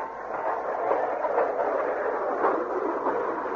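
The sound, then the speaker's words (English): A steady rolling rumble of a car on a run-down spooky fun house ride moving along its track, with a continuous rattling hum and faint clattering texture, holding an even loudness throughout with no voices. “Please take the ride. I need customers.”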